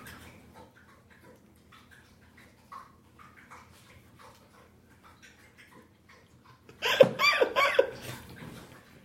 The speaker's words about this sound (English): Listen. She's not snoring. Yeah, she's just thirsty. I want to see how long she'll drink water.